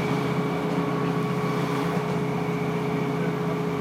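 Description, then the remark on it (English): A steady, continuous rumble and drone of a Northern Rail Sprinter passenger train running on rails, with a faint tonal whine over the broad noise and no talking. “I always get mixed up between the sprinters and the pacers. I think this one's a sprinter.”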